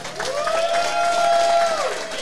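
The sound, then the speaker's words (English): A crowd at a Tuesday night event applauds Eagles running back Jordan Howard steadily for about two seconds, a dense wash of clapping with a long, high whoop or whistle riding over it that rises, holds, then trails off. “Hey, let's hear it for Jordan Howard.”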